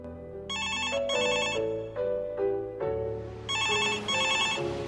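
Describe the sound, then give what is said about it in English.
A telephone rings in an empty house, called from a phone box, in two sets of paired, trilling electronic bursts, clear and fairly loud, with sustained musical tones playing underneath and no voices. “The phone rings in the empty house.”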